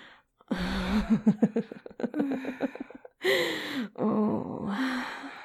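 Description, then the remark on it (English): Two people moan in drawn-out, wavering tones, broken up by a run of short breathy pulses. The sound is fairly loud, with no actual talking. “Oh, I could hear you breathing harder the moment you got to hear both of us moaning.”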